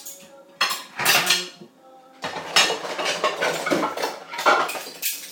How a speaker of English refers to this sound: I'm just doing some kitchen stuff, i.e. loading up the dishwasher. I'm trying to fit as much in as I can, but it's going to be an overload.